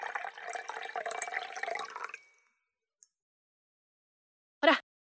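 Blood-red wine pours steadily into a glass for about two seconds, gurgling, then stops; after a pause comes a faint tick and one short, bright knock of glass. No one speaks.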